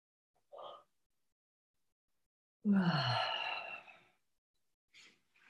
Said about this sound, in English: Usually we can all get inspired by each other's yawns, but now you'll just have to be inspired by mine today.